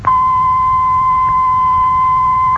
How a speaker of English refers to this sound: We shall play a steady tone in Studio A and then in Studio B. See if you can tell which is the live one. The steady tone in Studio A. The steady tone in Studio B.